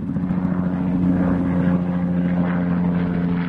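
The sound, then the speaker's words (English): A helicopter drones steadily overhead, its engine and rotor making a loud, continuous low hum with a faint rhythmic pulsing that holds throughout. “Leading Edge Aviation wants to offer as many as 300 helicopter tours a year around the edge of Crater Lake.”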